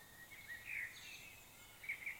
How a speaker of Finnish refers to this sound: Ilman aurinkoa maapallolla ei laulaisi mustarastas, turduus merula.